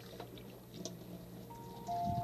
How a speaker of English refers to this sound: So let's get a glass and see if it works. He said fill the glass with water